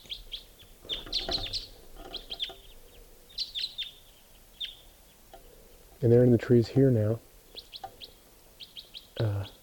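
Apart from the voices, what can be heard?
flock of birds calling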